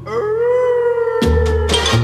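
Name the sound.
dogs howling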